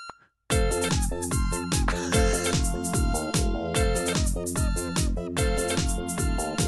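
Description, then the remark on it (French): A loud, busy electronic song composed from bright, buzzy synthetic beep tones, with a steady rhythmic bass pulse and quick repeating melodic notes, starting after a brief moment of silence. “Voilà, donc qui a dit que le bip bip c'était court, j'allais pas vous mettre 1 minute 45 de bip bip.”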